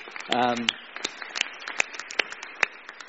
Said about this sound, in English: Let's give Heather a round of applause.